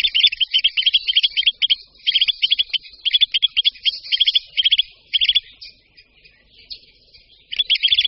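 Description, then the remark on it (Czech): Nestling chicks beg loudly for food in rapid bursts of high, insistent chirps, repeated in quick clusters with short pauses between them, then briefly fading before resuming. “Mláďata můžeme slyšet, jak hlasitě žadují o potravu.”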